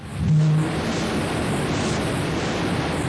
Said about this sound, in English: You're hearing the roar of an X-15 rocket plane, capable of flying at hypersonic speeds, up to 8 times the speed of sound. It's flown to altitudes of over 60 miles, while traveling at 4,000 miles an hour plus.